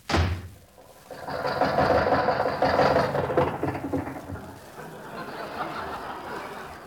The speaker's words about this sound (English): Here comes a little car down the street, and the driver looked like he's looking for something.